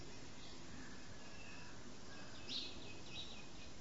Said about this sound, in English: The birds chirping, this silence.